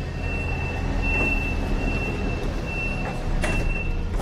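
A steady, loud rumble fills the inside of a moving subway car, with a thin high whine running throughout and a few sharp rattles near the end. No one speaks.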